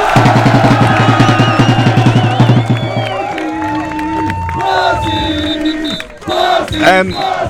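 A roadside crowd cheers and shouts wildly, with a rapid rhythmic drumming at first from a person dressed as Obelix, then overlapping whoops, yells and high whistling cries in a loud, chaotic din.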